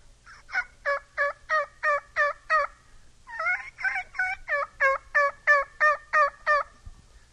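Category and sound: bird, turkey gobbling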